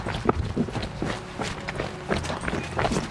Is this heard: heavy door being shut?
no